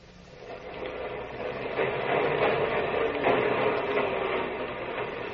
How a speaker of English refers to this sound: Morning clatters with the first L train of Allen Street. Daylight rattles through the windows, shaking the old brick houses, splatters the girders of the L structure with bright light.